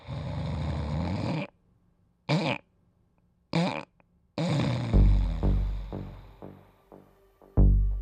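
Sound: person snoring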